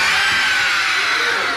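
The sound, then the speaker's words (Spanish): A loud, continuous wash of many overlapping screams and shrieks, like a frightened crowd, sustained without pause for the whole short stretch. “Se oían gritos.”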